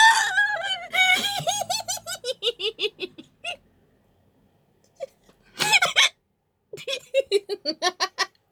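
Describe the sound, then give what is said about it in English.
Fairly loud hiccups come in quick rhythmic runs of short voiced gasps that sound almost like giggling, separated by a couple of brief pauses, with no talking. “When I get the hiccups like this, it's just ridiculous.”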